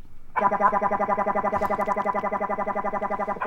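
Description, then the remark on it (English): A circuit-bent Baby Einstein toy piano glitches out with a loud, buzzy electronic tone that warbles rapidly and steadily, kicking in abruptly and droning on without pause, like a stuttering alarm. “he circuit bent a kid's toy, a baby Einstein piano”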